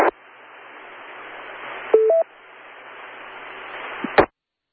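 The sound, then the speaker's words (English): A short electronic beep from a telephone keypad as the wrong button is pressed, rising in two quick steps, cuts through a steady hiss of line noise, with sharp clicks at the start and end. “I'm hitting the wrong button on the phone.”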